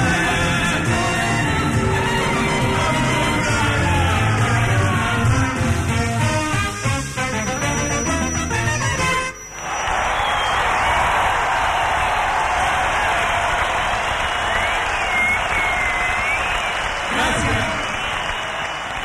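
Live music at a concert fades out halfway, then a large crowd in the Plaza de Toros bullring erupts into loud, sustained applause and cheering after a song, calling for an encore, a dense roar of clapping that holds steady to the end.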